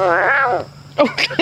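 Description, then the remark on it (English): A huge frog, almost the size of a grapefruit, caught in a net near a pond in the southern United States, gives one loud, wavering cry lasting about half a second, strained and bleat-like, almost catlike, followed after a short pause by a burst of voices speaking. “But the weird thing is the frog in the net sounds like a cat.”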